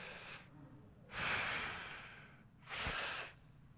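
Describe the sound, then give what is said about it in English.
A voice imitates the slow, rhythmic breathing of a man falling asleep while lying flat on his back, with long airy inhales and exhales in a steady cycle, fairly soft, with no other talking. “And then all of a sudden, I hear this really rhythmic breathing, just...”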